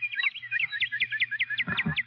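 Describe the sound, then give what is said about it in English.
A northern cardinal sings among pine trees, a quick series of clear, downslurred whistled notes, repeated steadily and brightly over a low background hum, with a brief rustling burst near the end. “There you are, a cardinal.”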